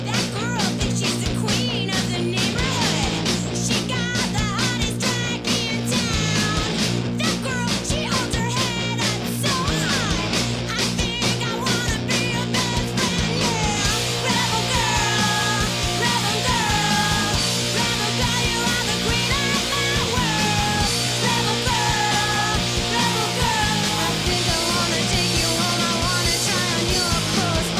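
A loud, driving punk rock song plays continuously, with dense distorted guitars and pounding drums under raw, screamed vocals that shout and wail throughout.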